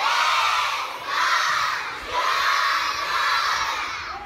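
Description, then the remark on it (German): About 180 children aged 6 to 13 shout together in unison in the yard of a primary school in Qamishli, northeast Syria, loud, in several sustained bursts with brief dips between them, chanting "Rojbash", good morning in Kurdish. “Sie schreien Rojbash, guten Morgen, auf Kurdisch.”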